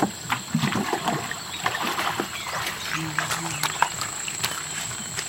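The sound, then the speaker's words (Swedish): Water is scooped and sloshed in irregular splashes as fishermen rinse their long narrow boats at the water's edge of the Mekong River in northern Thailand, set against a busy outdoor background with a steady high hum and faint voices. “Det låter som någon öser vatten eller någonting så.”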